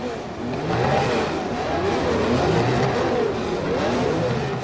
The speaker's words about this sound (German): Im Mai 1967 packt er sein transportables Tonbandgerät ein und zeichnet während des großen Preises von Monaco die Motorengeräusche an der Formel-1-Rennstrecke auf.